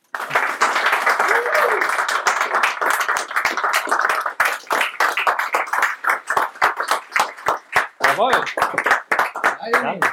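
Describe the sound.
An audience applauds steadily, many hands clapping in a dense burst that thins toward the end into sharper individual claps, with some voices and cheering mixed in.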